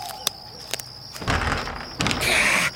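A couple of sharp clicks as a door handle is tried, then two bursts of rattling and jiggling as someone pulls at a door that won't open, with no voices.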